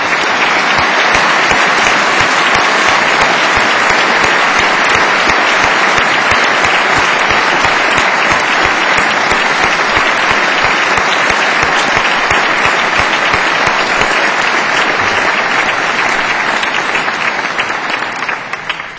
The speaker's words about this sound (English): I invite the audience to give these graduates a round of applause.